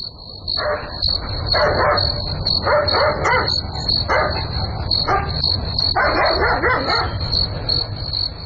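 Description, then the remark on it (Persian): A dog barks repeatedly in short irregular bursts in the middle of the night, while a steady high-pitched chorus of crickets or insects trills throughout beneath a low background rumble. “معلوم نمیشه، نمیفهم که سگ چرا میجفه، حتما کرامگب خواه است.”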